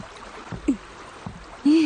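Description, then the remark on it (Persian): Soft, continuous water sloshing and lapping as a small boat moves along, with a few light knocks and a brief voiced sound rising near the end. “زود باش، از قایق پیاده شو.”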